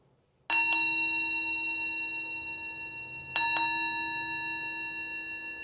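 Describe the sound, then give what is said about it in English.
A small metal Buddhist pilgrim's bell is struck twice at night, a few seconds apart, each strike a quick double hit that rings out with a bright, sustained tone, clear over a quiet background. “It was a Buddhist pilgrim's bell.”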